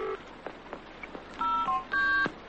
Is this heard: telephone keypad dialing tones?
yes